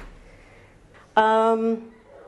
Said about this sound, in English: So, I'm going to close this door.